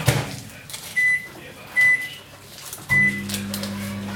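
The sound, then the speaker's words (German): Three short electronic beeps from a microwave's keypad, spaced about a second apart, then the oven starts up with a steady low hum that continues to the end, as milk is warmed to lukewarm for a yeast dough. “Mikrowellenmilch reicht? Ja, lauwarm.”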